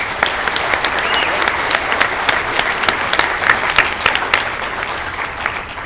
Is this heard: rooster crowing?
no